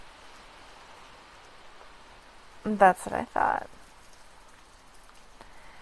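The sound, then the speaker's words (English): A steady, soft hiss of rain falling fills the background from start to finish, with a person briefly speaking in the middle over it. “The sound of the rain?”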